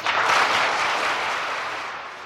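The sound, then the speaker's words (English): An audience at the National Philharmonic Hall in Warsaw applauds to greet Willis Conover, a dense, crackling wash of many hands clapping at once. It is loud at the start and eases off slightly over a couple of seconds, with no voices. “It is I who should applaud you for the warmth of the greeting you have given me here in Warsaw.”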